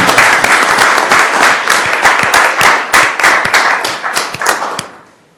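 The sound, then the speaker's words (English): A crowd at a zoo staff gathering breaks into sustained applause congratulating a departing staff member, many hands clapping densely and steadily for several seconds before it thins out and fades to quiet. “Give him a round of applause, please.”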